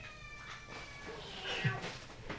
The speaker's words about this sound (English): Well, what's she going to do? She can go meow, meow, meow, meow, meow.